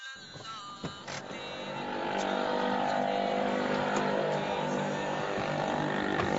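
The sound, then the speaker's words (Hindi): An overheated car engine runs with a steady droning hum that swells after a couple of seconds and then holds at a constant level, with a few faint clicks early on. “लगता है गाड़ी गर्म हो गई।”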